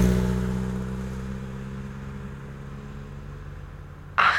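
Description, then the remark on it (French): A car in the Paris-Dakar rally roars by with a loud, revving engine that fades away, and a sharp new burst of noise cuts in at the very end as another car arrives. “Ouais, c'est un bon Dakar, ça se passe pas trop mal. C'est très dangereux pour les enfants qui traversent.”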